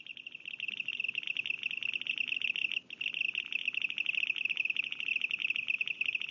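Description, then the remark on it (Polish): A grasshopper warbler's reeling song, slowed down, plays as one steady buzzing trill of rapid, evenly spaced pulses. It runs continuously with only a brief break midway, with no voices. “A świerszczak, jak u niego to wygląda?”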